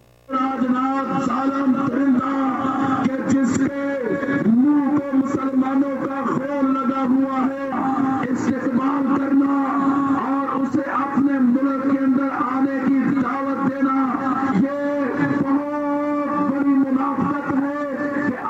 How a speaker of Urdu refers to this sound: نعرے بھارتی وزیر داخلہ راج ناتھ سنگھ کے پاکستان آنے پر آج اسلام آباد میں لگائے گئے. بھارتی وزیر داخلہ ساک اجلاس میں شرکت کے لیے آج اسلام آباد پہنچے اور اس موقع پر بعض مذہبی جماعتوں نے ملک گیر احتجاجی مظاہرے کیے.